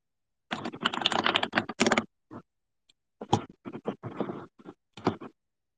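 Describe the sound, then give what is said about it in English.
Crisp typing on a computer keyboard in quick bursts: a dense flurry of keystrokes, a short pause, then several uneven clusters of clicks with no voices. “Me typing ASMR, keyboard ASMR.”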